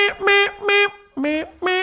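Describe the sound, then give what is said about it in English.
A voice imitates a trumpet with a quick series of loud, brassy toots. The first few are at one pitch, and the last two drop slightly lower after a short pause. “Trumpet sounds until I get back.”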